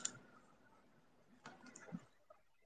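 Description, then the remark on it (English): A handful of soft mouse clicks from playing The Sims computer game land at irregular intervals against a quiet background, each one brief and faint, with no voices. “You're gonna hear my Sims clicking sometimes though, because I'm on Sims as well.”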